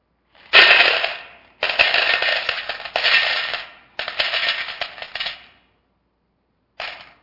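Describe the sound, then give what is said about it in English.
Coins pour and clatter in several loud bursts of jingling metal, each lasting about a second, with brief pauses between and one short final rattle. “They had coins. And so this is the way they gave money.”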